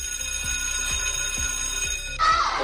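alarm clock ringing

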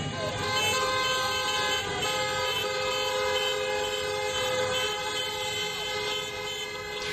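car horns honking

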